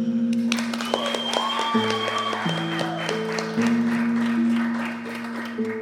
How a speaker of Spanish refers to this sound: Sin más, recibamos con un aplauso